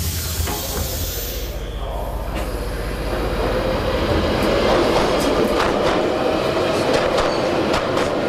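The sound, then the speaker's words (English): A London Underground tube train rumbles along beneath London, a loud, steady roar with rattling clacks and a high hiss, growing slightly louder partway through. No one speaks. “There's no quicker way to travel than on the tube. The large underground railway network that lies beneath London.”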